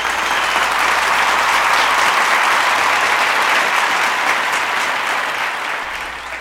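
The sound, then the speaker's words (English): Sustained applause from a crowd, a dense, steady wash of clapping that stays loud for several seconds before tapering slightly at the end. “Let's applaud because the genocide is being recalled by the Pope.”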